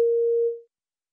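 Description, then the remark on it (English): A single steady electronic beep cueing a language learner to repeat a sentence, a clear mid-pitched tone lasting just over half a second before fading out, followed by silence. “Listen and repeat the sentences after the beep.”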